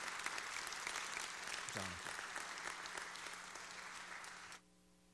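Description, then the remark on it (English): Sustained audience applause and appreciation for a group of ladies who made gifts, a dense steady patter of many hands clapping for about four and a half seconds before cutting off abruptly, leaving a faint low hum. “Would you give all these ladies a round of applause and appreciation?”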